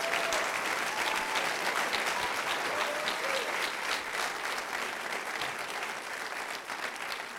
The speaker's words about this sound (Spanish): Oh, dele un mejor aplauso al Señor.